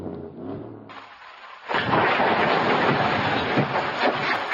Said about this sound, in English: We did get some surveillance video from a neighborhood in Oxnard showing the impact of this earthquake, and you can also hear it pretty quickly. Let's take a listen.